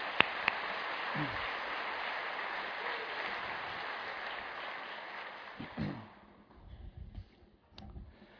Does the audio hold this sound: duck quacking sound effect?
no